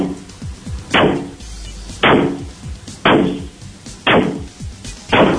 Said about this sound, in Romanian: dă drumul, dă primul ciocan. Vreau să aud gresia spartă.